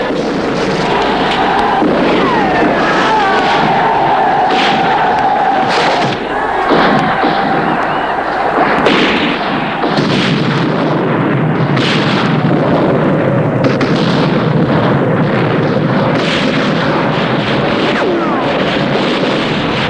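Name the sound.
battle gunfire and explosions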